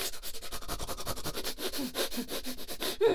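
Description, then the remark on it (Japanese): Loud, snuffling sniffs through the nose while smelling a fart, repeating in a rapid, steady rhythm, over a dozen breathy, hissing pulls of air in a few seconds, with no talking. “臭いのに鼻息ふがふが止まらない。”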